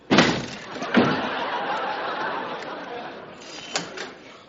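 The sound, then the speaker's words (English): A door is broken down: two loud splintering crashes land in quick succession, followed by a sustained rumble of clatter and commotion, with one more sharp thud near the end. “Yes, you broke my door.”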